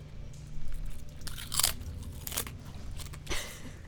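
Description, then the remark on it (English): Wet crunching and chewing, with several sharp, bright crunches breaking through a steady low grinding of jaws, irregular and fairly quiet, no voices. “And you hear a crunching and a chewing.”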